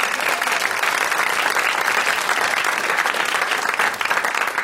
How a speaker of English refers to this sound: Give yourselves a round of applause for making the trek.